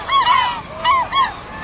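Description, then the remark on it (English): Western gulls on the Pacific coast give a run of loud, nasal, honking calls, three or four harsh cries in quick succession, with no talking. “The Pacific coast is home to vast numbers of aptly named western gulls.”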